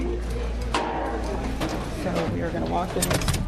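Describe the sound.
Heavy security double doors open and swing shut with a few clunks and a mechanical whir over a steady low hum, while voices murmur, as a tour passes through them onto a residents' programme floor of the Midnight Mission.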